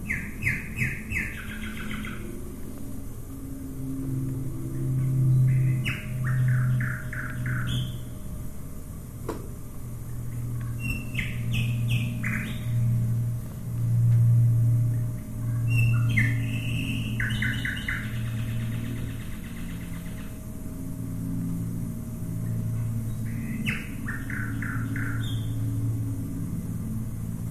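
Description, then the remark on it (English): A nightingale sings in repeated bursts of bright, rapid trills and whistled phrases, with a steady low rumble of Lancaster and Wellington bombers underneath throughout, in a recording made during the Second World War. “That's the song of the nightingale.”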